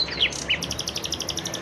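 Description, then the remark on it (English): A bird sings outdoors on a quiet early-morning street in Jerusalem, opening with a couple of quick high sweeping whistles, then a rapid, steady trill of bright repeated chirps, clear over a faint background hush. “It was still quiet outside, and save for a honk here or there, it was just me and the birds. Ooh, listen to that one.”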